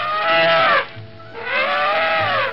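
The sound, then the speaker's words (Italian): Two loud, brassy trumpet calls from a huge elephant with rear wheels like those of modern plowing tractors, each lasting under a second and sliding downward in pitch, separated by a brief pause with a low rumble underneath. No one speaks. “Infatti un pachidermico elefante con tanto di ruote posteriori, del tutto simili a quelle dei moderni trattori d'aratura, fissandoli minaccioso si mise in moto.”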